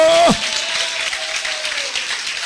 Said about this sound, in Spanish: Ese es el aplauso para Cristo. Y bien fuerte, porque es para Cristo. Que le duelan las manos. ¡Alábalo!